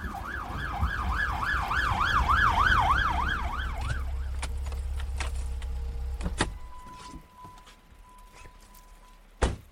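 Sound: ambulance siren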